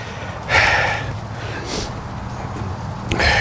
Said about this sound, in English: Verse number 7, I'm going to catch verse 7. I hear your pages turning. Matthew 6, verse 7.